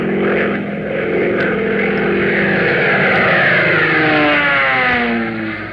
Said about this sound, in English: Fellas, doesn't the roar of that plane give you a thrill? Doesn't your heart beat a little faster every time you see one of Uncle Sam's giant birds flying high over the rooftops?